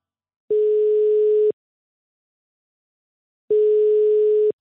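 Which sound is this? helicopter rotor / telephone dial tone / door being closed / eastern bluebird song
telephone dial tone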